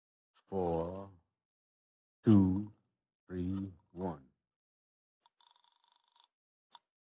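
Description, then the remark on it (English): A few short voiced, hummed-sounding bursts, then a brief, faint telephone ring tone buzzing for about a second, followed by a small click, as a call is placed from a phone booth to the dispatcher at Harold's Television Service. “You go on in the back of there and I'll get in the phone booth and call the dispatcher,”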